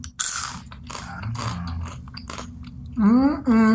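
Crunching of a crisp, puffed grain snack being bitten and chewed, with several dry crackly bursts, followed by a short voiced murmur near the end.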